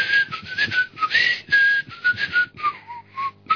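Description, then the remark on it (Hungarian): A person whistles a lilting ballet melody, bright sustained tones gliding and stepping between notes in a lively, dance-like phrase, with breathy air noise around each note and no talking. “és ezen a lemezen van egy zene, az a címe, hogy La Balletta, és nem tudom, szabad-e fütyülni”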